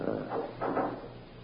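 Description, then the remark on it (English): A heavy fire door is pushed shut with two dull, muffled surges of sound, a scrape followed by a fuller closing thud, moderately loud over a faint background hum. “Till I close the fire door.”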